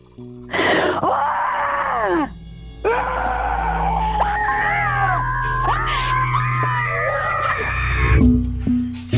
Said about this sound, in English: This is my primal scream.